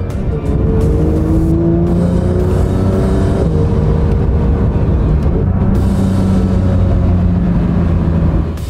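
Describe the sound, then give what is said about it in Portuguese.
A supercar engine roars loudly as it downshifts during a test drive in its track and sport modes, its pitch stepping and shifting, with a steady, continuous growl and no one speaking. “É muito legal, né, escutar esse ronco da reduzida.”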